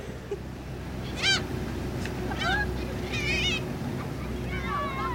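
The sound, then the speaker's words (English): Gulls cry out several times in short, mewing squeals, scattered across a few seconds over a steady low engine rumble and faint background murmur, as they fly alongside a ferry on the River Han while children feed them. “Children feed gulls, which fly alongside the boat, and couples sit up on deck, enjoying the sun.”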